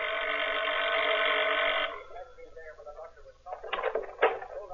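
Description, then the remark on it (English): A doorbell at the front door of a house, rung by a visiting man, buzzes in one steady, harsh tone for about two seconds, then stops, followed by voices speaking briefly. “walks to the front door, rings the bell.”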